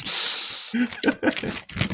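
A voice mimics shuffling papers, starting with a steady breathy hiss, then a few quick voiced, sputtering bursts. It is moderately loud, with no real speech around it.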